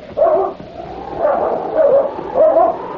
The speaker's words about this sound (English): Take dog away. Him chase me here. Back, Blackie. Get back, boy.